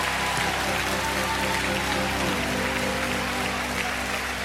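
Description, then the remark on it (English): An audience claps steadily for several seconds as a hand clap of praise to God, a dense, continuous wash of hand clapping with steady sustained tones humming underneath and no talking. “Come on, give God a hand clap of praise tonight.”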